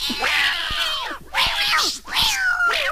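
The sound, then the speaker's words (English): Cats yowl and screech in loud, overlapping wails, three long drawn-out cries in quick succession with brief gaps, frantic, as the cats see the dog Lady come into the house and run all over the place, with no talking. “And when those cats saw Lady, they started to scream and yell and run all over the place.”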